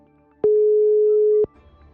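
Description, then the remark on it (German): A telephone ringback tone while calling a mobile phone in Potsdam: one steady, mid-pitched beep lasting about a second, clearly audible with a faint click at start and end, then quiet line hiss. Nobody speaks. “Jetzt muss nur noch jemand rangehen.”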